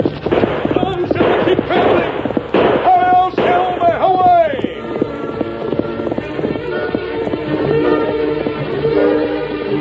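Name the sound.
horse hooves galloping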